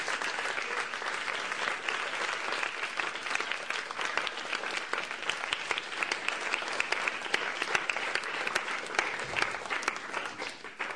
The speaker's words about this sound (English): If we could just have a round of applause once more for Satchanam.